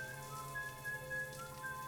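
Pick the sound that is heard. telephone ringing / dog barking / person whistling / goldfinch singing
person whistling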